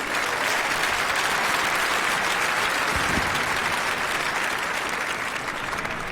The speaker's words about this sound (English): For starters, I'd also like to thank the brave people who are planning to translate what I'm going to say, despite knowing how fast I usually speak. So quick round of applause for the translators over there in the boxes.